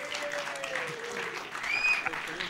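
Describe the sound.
An audience applauds steadily throughout, a dense wash of clapping with some cheering voices and a brief high whistle near the end.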